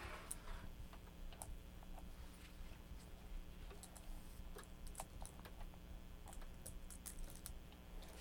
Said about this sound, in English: Is that a clock?